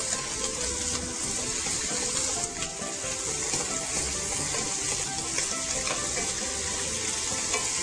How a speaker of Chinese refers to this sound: 好，那我们注意一下锅子里面的这个肉哈，也不要煎得太熟，我们只要把它呢稍微两边煎黄就好了哈。